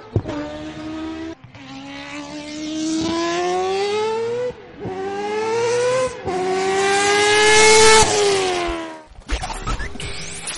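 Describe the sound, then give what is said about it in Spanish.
A Le Mans-winning race car's light engine revs hard through several rising bursts, each climbing in pitch before cutting off with a gear change, loud, with no voices. “Pero bueno, la verdad es que era un motor muy fiable, muy ligero, y que consiguió, contra todo pronóstico, ganar la 24 horas de Le Mans.”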